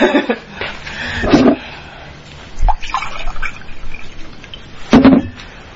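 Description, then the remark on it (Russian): A woman pours herself water into a glass, with gurgling splashes and brief bursts of liquid over a few seconds, alongside faint background noise and a soft low thump. “сейчас я себе воды налью.”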